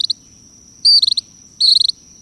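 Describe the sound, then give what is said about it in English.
Two loud, buzzy gray kingbird calls on Key West in the Keys, each a quick stuttering burst of notes, separated by a short pause, over a steady high insect drone and faint low rumble. “Listening on Key West to mangrove cuckoos and gray kingbirds,”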